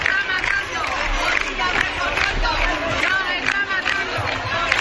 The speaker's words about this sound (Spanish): Cientos de personas protestan a esta hora por el escándalo de los fallos, de los retrasos en el problema de detección precoz del cáncer de mama. Gritos de Moreno dimisión en Sevilla a las puertas del Servicio Andaluz de Salud.